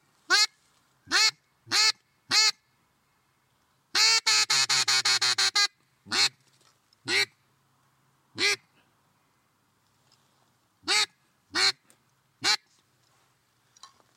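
A double-reed duck call from Canadian Tire blown in loud, sharp quacks, several single honking notes spaced apart plus one fast rattling run of rapid quacks, bright with no talking.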